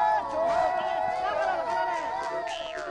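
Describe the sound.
Children's encouraging calls to horses, called Gingla, performed by young riders aged 6 to 11 while warming up their horses: a chorus of high, wavering voices sounding together in overlapping, sustained cries that rise and fall steadily for a few seconds.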